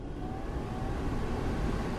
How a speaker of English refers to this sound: In the United States, that sound has become a part of the climate. Energy-sucking air conditioning, blowing through the interior spaces of our lives constantly.